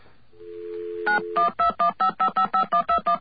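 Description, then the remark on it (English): A steady telephone dial tone gives way to a rapid, evenly spaced run of about a dozen keypad dialing beeps, each a short two-tone chirp, clear with no voices, as someone dials directory information. “Gonna call information. Oh, why am I getting another dial tone?”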